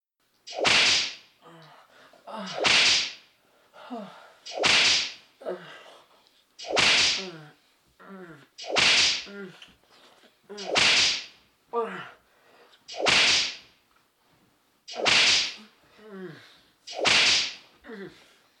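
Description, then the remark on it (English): Nine sharp whip lashes crack one after another at a steady pace, about two seconds apart, each with a quick swishing rush before the snap, as someone strapped into a St. Andrew's Cross is whipped. Loud, with no talking. “And I'm going to whip you.”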